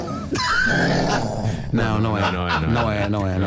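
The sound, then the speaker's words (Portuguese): A woman growls and roars in imitation of a lion, two loud, rough vocal roars, the second longer and more forceful. “Sobretudo o segundo rugido é monstruoso.”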